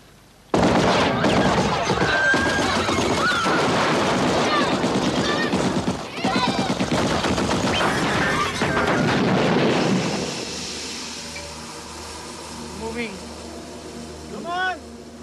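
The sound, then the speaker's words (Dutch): Loud, sustained volleys of rapid gunfire as soldiers shoot buses to pieces, with crashing impacts and shouting voices for about ten seconds, then the shooting stops and quieter voices and calls remain in the background. “Maar als alle mensen vertrekken om te voet naar het stadje te gaan, schieten de soldaten alle bussen kapot.”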